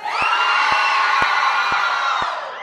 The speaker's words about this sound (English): If I should root for the blue team, let me hear you cheer.